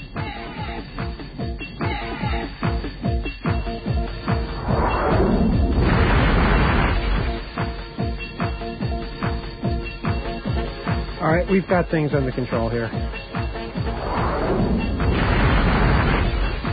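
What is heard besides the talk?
explosions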